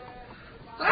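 After a quiet, low murmur, a sudden loud sneeze bursts out right at the end, sharp and breathy, on a live radio broadcast.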